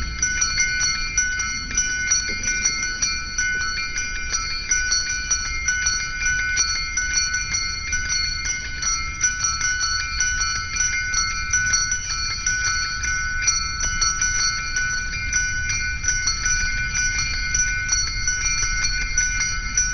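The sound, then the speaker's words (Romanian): Church bells ring steadily throughout, their overlapping metallic tones blending into a sustained, shimmering peal at moderate loudness with no voices present; a recording of bells from a disc, broadcast in a Christmas music programme on Radio Free Europe. “După această rugăciune a clopotelor de pe discul …”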